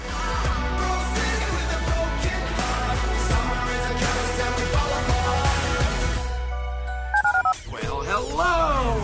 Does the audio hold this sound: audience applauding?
no